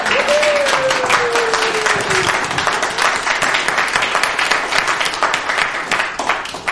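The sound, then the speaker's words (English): The audience of St. Luke Lutheran Church breaks into sustained applause welcoming their new pastor at her installation, dense overlapping claps filling the room steadily, with a brief high whistle or voice tone sliding down near the start. “And this is where you get to clap in church.”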